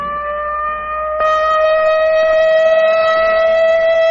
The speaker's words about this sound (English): Only in practice now, a rehearsal, a training exercise. But tomorrow, this siren may mean the real thing. And if you hear it, as you drive in your auto, as you sit in your office, or work at your bench, wherever you are, what will you do?